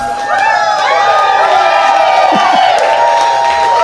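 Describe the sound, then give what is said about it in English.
A loud audience at a live Doug Loves Movies show at South by Southwest cheering and whooping, many voices overlapping in a steady roar for the whole stretch, with clapping blended underneath. “Whenever the audience clapping doesn't match up with the song, we just put the song in clean.”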